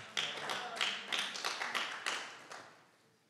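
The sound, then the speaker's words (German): Audience applause of steady, evenly spaced claps from a group, about eight sharp beats that gradually thin out and fade toward the end. No one speaks. “Applaus.”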